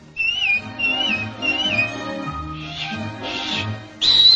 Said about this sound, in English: And anytime you need me, you know, just whistle. Like this.